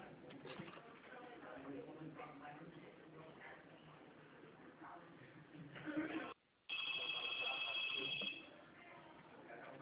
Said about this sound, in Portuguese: então tá, só um momento, por favor, porque demorando tanto, é porque o telefone para de tocar e é muita gente atendendo.